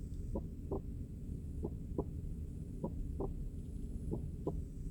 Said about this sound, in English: Keep listening. Able to hear my heartbeat?